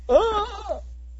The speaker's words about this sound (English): It's some kind of freaking crows or raven or whatever the hell it is. Yeah. And it won't shut up. It's like 6 o'clock in the morning.